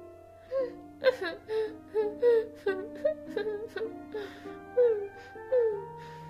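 A voice imitates whimpering, breathy sobbing in a run of short, wavering whines that rise and fall, moderately loud over a soft, steady musical hum.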